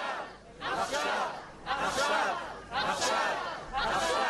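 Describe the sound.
A large crowd chants "now" in unison, four loud rhythmic shouts roughly a second apart, each voice-filled burst swelling and fading before the next, responding to a speaker demanding the return of hostages held in Gaza.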